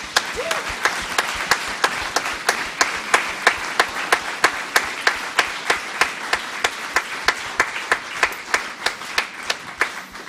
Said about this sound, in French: Et est-ce qu'on peut applaudir notre Dieu? Amen.